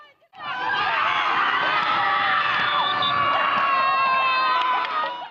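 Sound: children cheering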